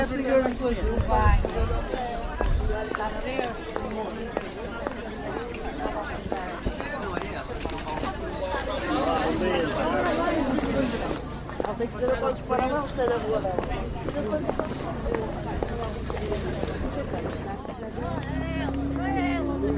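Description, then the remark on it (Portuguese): A bustling open-air market, the Feira dos Carvalhos in Gaia, on a Wednesday: overlapping voices of vendors calling out over a steady crowd murmur, with shuffling and occasional clatter throughout. “Os apelos dos comerciantes trazem vida à Feira dos Carvalhos.”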